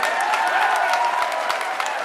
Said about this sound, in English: And then comes a warning from the chair. The hearing will end if the clapping continues.